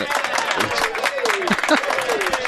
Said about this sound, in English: I got the applause ready.